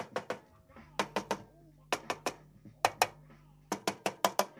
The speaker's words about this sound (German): Jetzt klopft Bernd auf diese Platine vorsichtig mit einem isolierten Schraubenzieher.